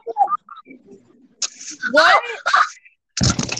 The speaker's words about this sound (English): I dropped my phone and fell off my chair.